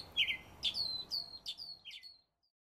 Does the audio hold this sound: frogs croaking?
no